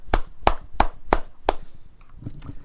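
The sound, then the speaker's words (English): Five sharp, evenly spaced hand claps from a single person as a round of applause for 111 points scored in the Famous Idaho Potato Bowl, fairly loud, followed by a short stretch of quiet background. “And can I give you a... Hold on. A good round of applause.”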